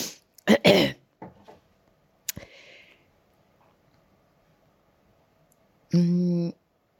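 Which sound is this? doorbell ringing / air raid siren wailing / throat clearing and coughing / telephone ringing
throat clearing and coughing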